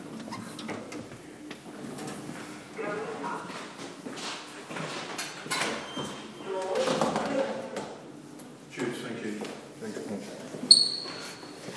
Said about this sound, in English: Ground floor. Doors opening.